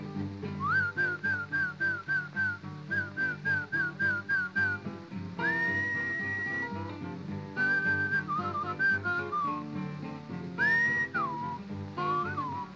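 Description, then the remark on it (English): A person whistles to call a horse: a quick run of short, bright repeated notes, then longer held and sliding whistles, clear over a steady low musical backing, with no talking. “I thought about what Papa said. You was a horse. I must whistle for you. Something like this.”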